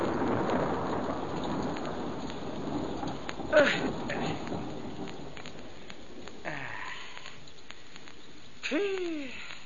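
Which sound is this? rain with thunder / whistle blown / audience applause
rain with thunder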